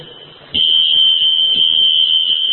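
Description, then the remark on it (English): A smoke alarm suddenly starts blaring, a loud, steady high-pitched tone that holds without a break, with faint low murmuring underneath. “You know what the next thing is? The fire truck's going to show up.”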